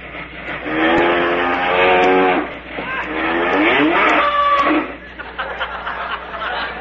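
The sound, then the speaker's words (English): A milk train going by, a steady rumbling rush with wavering, whistle-like tones that rise and fall, loud for about four seconds before easing off into a fainter rattle. “Sounds like the milk train, don't it?”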